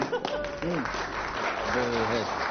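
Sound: round of applause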